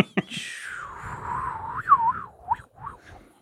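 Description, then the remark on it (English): A comedic tumbleweed sound effect: a sharp tap, then a breathy whistling tone that slides downward and wavers, trailing off in a few short springy bounces, with no talking. “Put a tumbleweed sound effect in here, please.”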